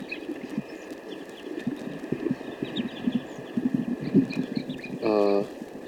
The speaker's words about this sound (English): And meanwhile, a flock of crossbills has arrived on the scene, about 12 or 15 birds. And these are vocalizations of the playback tape, which is near the net site. Some of the crossbills are now starting to come down to the net.